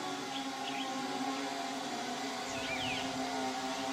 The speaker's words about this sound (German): Also haben wir dann das Geräusch der Drohne vorgespielt und hier sehen Sie den Film dazu.